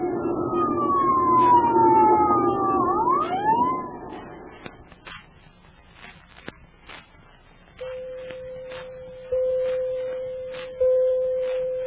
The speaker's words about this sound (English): The siren came. And the ambulance appeared.